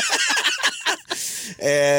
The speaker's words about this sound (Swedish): Vi kan klämma in hur en flodhäst faktiskt låter då samtidigt. Så kan den låta då när man ger den fingret bara.